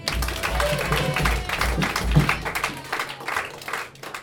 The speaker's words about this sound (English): Everybody clap for him, too.